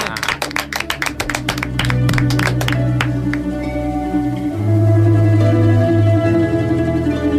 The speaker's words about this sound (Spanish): Y si les parece, despedimos con un aplauso. Venga, pues para todos ustedes.